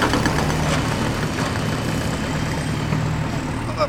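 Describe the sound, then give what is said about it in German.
Steady, loud rumble of heavy construction machinery running at a zoo, by the lion enclosure: a deep idling engine drone with a constant low hum and a noisy mechanical wash over it, unbroken throughout with no voices. “Was machen die da mit ihren seltsamen Maschinen”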